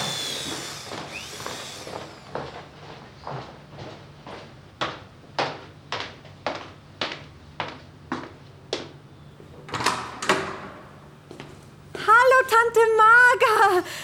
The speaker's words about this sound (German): Da klopft doch jemand. Also ich gehe mal zur Tür und schaue nach.